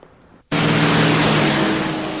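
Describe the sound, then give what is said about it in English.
After a brief near-silence, a car suddenly swells in loud at night, its engine hum layered under a steady broad hiss of tires rolling over wet pavement on a dark, wet street as it follows another car. “It's dark and the streets are wet as Matt follows Laura in her car.”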